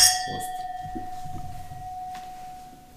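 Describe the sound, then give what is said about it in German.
Glasses clink together in a toast, one bright strike whose clear, high ring lingers and slowly fades over a few seconds, with faint murmuring noise underneath. “Und jetzt stoßen wir noch an.”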